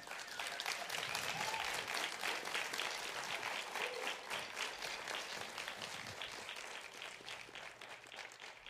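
An audience bursts into sustained applause for the harp player at a live music performance, a dense crackle of many hands clapping that stays loud for several seconds before gradually thinning and fading toward the end.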